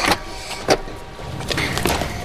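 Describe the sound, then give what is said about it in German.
A taxi's car door is tugged and pulled open, with two sharp mechanical clunks followed by a rattling, scraping stretch of metal and latch noise, with no voices. “Er springt in ein Taxi. Timmy, hinterher. Los, schnell hin. Da ist er, eine Taxi. Timmy hält ihn fest. Hilf mir, die Tür aufzumachen.”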